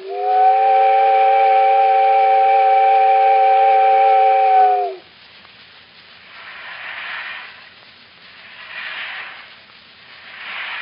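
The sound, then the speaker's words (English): A steamboat whistle blows as the boat departs: one long, loud, steady blast of several seconds with a rich chord-like tone, then cuts off, leaving soft rhythmic puffs of steam hissing at intervals. “There goes the boat.”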